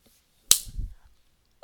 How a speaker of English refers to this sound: You want my hand back on the stick, don't you? Well, how about I slap it? Or better yet, slap those balls of yours.